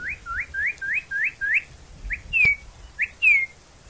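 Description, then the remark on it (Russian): Wings of a flock of ducks whistling as they fly high overhead: a quick, rhythmic run of thin rising whistles, then a few separate longer sliding whistles, clear with no voices. “Есть такая порода уток. Когда они летят, то их крылья, рассекая воздух, точно поют, или лучше сказать, посвистывают.”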